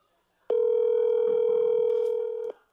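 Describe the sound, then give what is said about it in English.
A steady, unbroken telephone dial tone, heard as a phone call is about to be placed, hums at a single mid-low pitch for about two seconds, starting and stopping abruptly, with faint background noise underneath and no talking. “Let's call this guy.”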